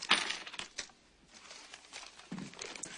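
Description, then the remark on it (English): Metal coins from a coin collection, nickels, quarters and a penny, clink and jingle together, a bright burst at the start followed by scattered smaller clinks and a softer rattle near the end, with no talking. “Show me the collection. No, you don't mean it. Show me coins.”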